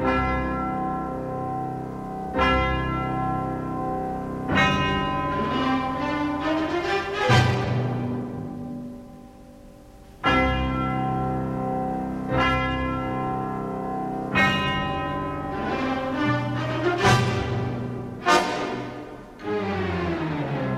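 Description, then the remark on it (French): Deep orchestral bells toll in slow, heavy strokes, several struck at irregular intervals, their long ringing overtones blending with a sustained orchestral backdrop; some bells are placed on the stage and others offstage, so some strikes sound brighter than others. “Et puis après il va faire également tout un jeu de cloches, des cloches soit situées sur la scène, soit en coulisses.”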